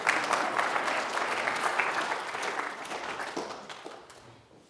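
A room full of people clapping steadily, a dense wash of hand claps at moderate volume that holds for several seconds before tapering off toward the end.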